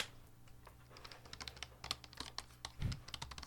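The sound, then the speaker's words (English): Rapid, irregular clicking of keys on a computer keyboard, typed as an ASMR sound, a quick patter of light taps with a slightly heavier thump near the end, fairly quiet and with no talking. “Or the, like as you, even typing.”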